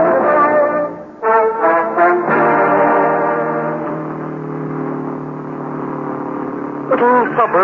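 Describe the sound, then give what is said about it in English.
A voice imitates road traffic in wet weather, making a steady droning engine sound with rising and falling revs for several seconds, like cars driving past, fairly loud, ending in a short revving burst. “Plenty of traffic on the road.”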